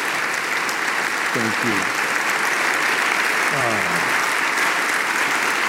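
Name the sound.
audience applause welcoming speaker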